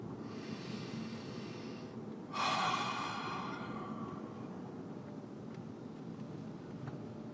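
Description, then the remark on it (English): One deep, breathy exhale rises suddenly partway through and trails off over a second or so, set against a steady low rumble of road and engine noise inside a vehicle. “Take a deep breath.”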